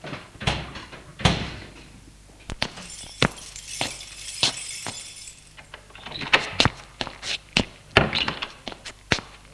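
A heavy car door thunks shut, then a string of sharp knocks, clicks and rattles follows as the front door of a large 19th-century house is unlocked and pulled open, all fairly loud.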